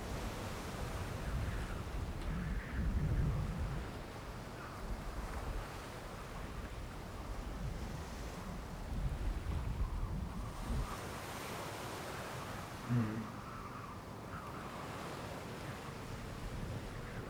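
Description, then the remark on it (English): Atlantic Ocean waves wash steadily against the shore, with surges swelling and receding over a constant rush of surf, while wind buffets the microphone with a low rumble. No voices are heard. “Yeah, all the way across the Atlantic Ocean.”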